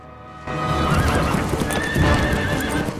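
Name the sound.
horses galloping and neighing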